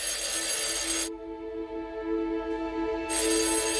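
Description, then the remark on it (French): A telephone rings loudly: a harsh bell burst, a brief pause with a lingering tone, then the ringing starts again. No one speaks. It is a call to Edith Cresson from François Mitterrand, in France in 1991. “Quelques jours avant cette annonce, elle reçoit un coup de téléphone.”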